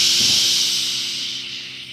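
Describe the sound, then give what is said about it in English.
A steady, breathy whoosh of breeze through trees, a bright airy hiss that holds evenly for about two seconds and then slowly fades, with no voices present. “Sings the breeze through the trees.”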